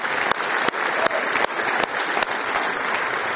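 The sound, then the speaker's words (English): An audience at a morning church service claps together in praise of the Lord in a steady, dense wave of applause, with faint louder hand claps standing out at roughly even intervals throughout. “Give the Lord one more hand clap of praise this morning.”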